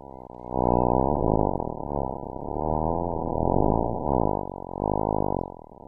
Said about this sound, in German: Und das ist ein Echolotlaut vom Gangesdelfin, aufgenommen in der Nähe von Guwahati von einem Bioakustiker von der Universität Tokio. Für uns hörbar werden die Laut nur durch eine Frequenzmodulation.